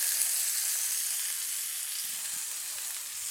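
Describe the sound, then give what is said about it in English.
Flour-dredged cutlets frying in pancetta fat in a pan, giving a steady, bright sizzling hiss with fine crackles that holds evenly throughout, with no one speaking. “Just to summarize what we've done so far, we've cooked pancetta down in the pan, removed it but left the fat in.”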